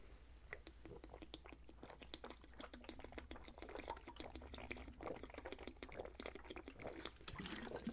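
Someone drinks water, with a steady stream of small wet clicks and gulping sounds over a low background hum and no talking.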